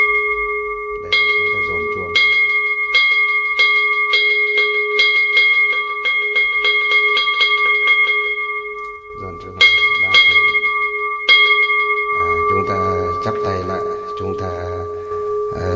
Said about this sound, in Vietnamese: Khi chúng ta giải ra như thế này mà chúng ta nhìn thấy là các Phật tử và người nhà của họ đã ngồi vào đâu vào đấy rồi, trang nghiêm đạo tràng rồi, bắt đầu thì chúng ta mới dồn chuông.